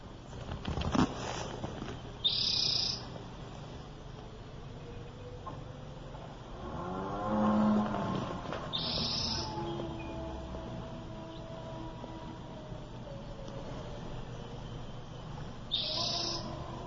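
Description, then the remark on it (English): Birds call outdoors near a lake in short, bright bursts repeating at long intervals, with a faint steady ambience and a brief sputtering motor rising in the middle as someone at a neighbouring cabin tries to start a jet ski. “Okay, so you hear the birds, right?”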